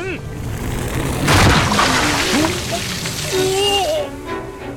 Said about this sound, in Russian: Но ты позволяешь ему проходить через всю ладонь. Вот поэтому вода и взорвалась.